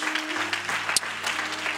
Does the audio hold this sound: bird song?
no